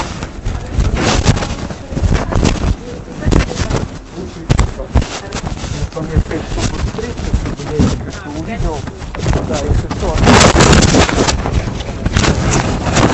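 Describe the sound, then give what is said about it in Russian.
Steady rain hisses and patters with gusty wind noise buffeting the microphone, swelling louder toward the end before easing slightly. “Как хорошо здесь слушать дождя.”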